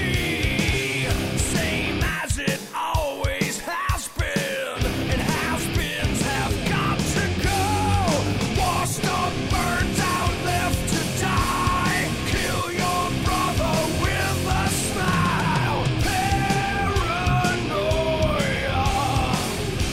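A heavy metal song by a Chicago metal band formed in 1979 plays loudly and steadily, with dense distorted guitars, pounding drums, and a strained, shouted lead vocal riding over the wall of sound.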